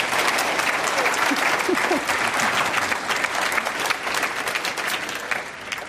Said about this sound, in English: let's give a round of applause to Yvon Chouinard for getting through that